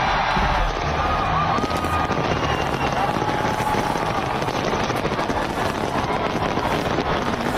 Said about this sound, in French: Le basculement, par exemple, en Nouvelle-Zélande. Feu d'artifice à la pluie.